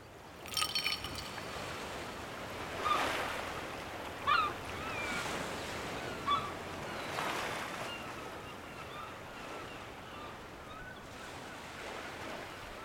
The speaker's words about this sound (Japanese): それにしても本日はとてもいいお天気ですね。波もとても穏やかで、港を出入りする船の航跡が日の光に照らされとても綺麗です。